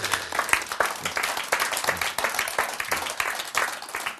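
A crowd claps steadily during a sermon, many hands overlapping into a dense, crackling wash of applause that stays fairly even in loudness for a few seconds, with no voices standing out.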